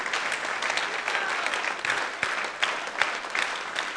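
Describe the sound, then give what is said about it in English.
A crowd claps steadily for the whole stretch, a dense wash of many hands with a few sharper individual claps standing out, and no voices on top. “Those that are standing, stay standing because I'm going to get you clapping again.”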